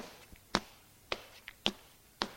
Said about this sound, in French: Elle entend la porte d'entrée qui s'ouvre. Des pas dans le couloir.